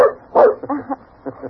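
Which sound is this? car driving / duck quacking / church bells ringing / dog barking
dog barking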